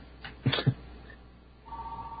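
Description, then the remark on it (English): A couple of sharp clicks and thumps, then a steady electronic tone starts and holds, signaling an incoming phone call on the call-in radio show Off the Hook Overtime, moderately loud against a faint hum. “We have a phone call. We have a phone call.”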